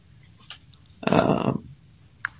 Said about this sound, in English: Somebody mute, please? Shuffling papers or something. Yes, scraping or something.